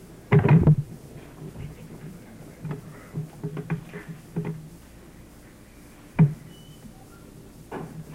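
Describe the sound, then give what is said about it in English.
A door is shut with a solid thud near the start at a State Water Plan hearing at the Little Tree Inn in Pocatello, Idaho, followed by quiet background noise, a few faint knocks and shuffles, and another sharp bump later on. “would you close that door, please?”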